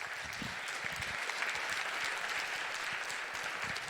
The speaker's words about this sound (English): Please give them a great round of applause and welcome them to the stage.